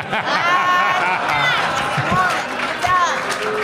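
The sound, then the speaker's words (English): An audience boos loudly and continuously, a dense wash of many voices with drawn-out, wavering jeers rising above the crowd noise throughout. “Stop booing it, my friend!”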